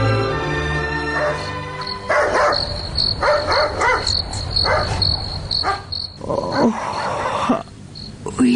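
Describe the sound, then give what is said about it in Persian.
A dog barks repeatedly in short, loud bursts over a steady chorus of crickets chirping in the background, in the middle of the night at a home. “اینکه چرا در نصف شب سگ جف می زند و بعدن چی اتفاق می افتد، این را در درامه می شنیم”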